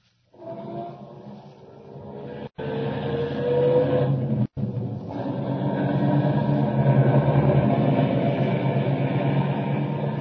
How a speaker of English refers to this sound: Start up the car.